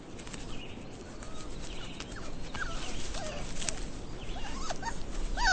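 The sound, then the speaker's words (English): A Carolina dog gives a series of short whines and yips, thin and fairly faint, rising into sharper high cries at the end over steady outdoor background noise. “The Carolina dog lives in the woods of South Carolina.”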